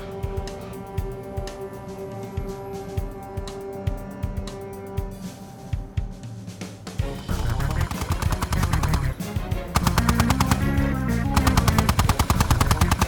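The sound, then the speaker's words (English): Rapid automatic gunfire from a tripod-mounted gun set up on the back hatch of a vehicle, shooting at pursuers, starting after a stretch of lower rumbling and rising into dense, loud, continuous bursts of sharp cracks that grow even heavier toward the end. “I'm going to set a tripod up on the back hatch.”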